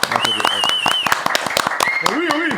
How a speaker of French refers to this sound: Et on applaudit Anso puisque Anso c'est elle est stagiaire chez Wild depuis 3-4 mois.